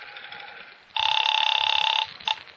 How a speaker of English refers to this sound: Well, there's the phone. Let's hope for your sake that Finger is at hand.